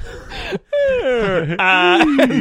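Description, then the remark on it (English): A voice imitates a creaky trap door: a drawn-out, wavering groan that slides downward in pitch, breaks off briefly, then resumes and creaks on to the end. “Oh, God, it's but not a spooky creaky door.”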